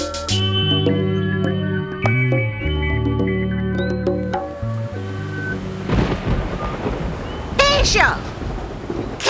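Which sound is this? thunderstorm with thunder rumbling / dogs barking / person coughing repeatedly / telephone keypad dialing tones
thunderstorm with thunder rumbling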